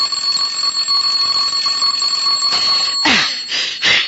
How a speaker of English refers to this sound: I said the doorbell. What about it? It's ringing. Let it ring.